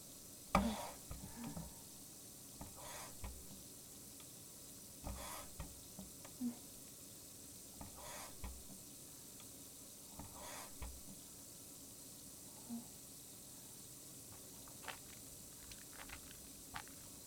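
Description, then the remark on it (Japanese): Hand soap is worked into a lather with soft, wet squishing and squelching, coming in quiet, irregular bursts over a faint steady hiss, with no talking. “ハンドソープを泡立てます。”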